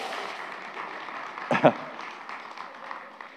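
crowd, golf clap

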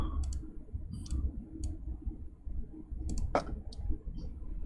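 household object, pen being clicked repeatedly

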